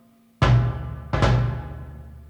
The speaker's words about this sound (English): Bass drum.